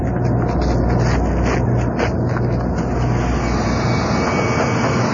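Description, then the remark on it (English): A deep, continuous rumble of water from a pond surging through a big pipe toward steam engines, loud, with a steady low hum underneath and a broad hissing rush on top, no voices. “That deep rumbling is water from Les Bottom Pond coming through the big pipe, heading to the steam engines.”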